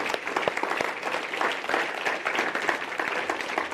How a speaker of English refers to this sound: So can we give the Lord a round of applause this morning?